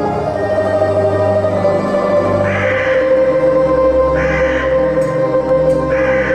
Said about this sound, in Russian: Что за каркал над могилой пернатый?